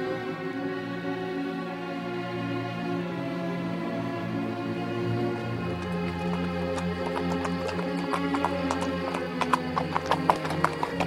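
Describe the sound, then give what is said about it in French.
A horse's hooves clop along at a steady walking pace, starting about halfway through and growing crisper, as the horse is ridden through Haute-Provence, over a sustained, droning musical tone that runs throughout. “Le cheval marchait gaiement.”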